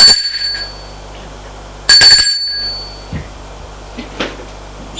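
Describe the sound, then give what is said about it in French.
An apartment doorbell on the second floor of an old, dilapidated building rings twice, two bright, shrill bursts about two seconds apart, each cutting off abruptly, followed by quiet room tone and a few faint knocks. “Là, elle sonne à une porte d'appartement.”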